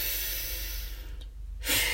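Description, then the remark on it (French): A long, airy deep inhalation during a guided relaxation exercise, followed by a brief pause and the start of a forceful breath out. No one speaks. “Inspirez profondément.”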